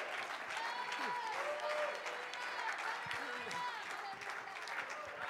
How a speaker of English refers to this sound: Come on, clap your hands and give the Lord some praise.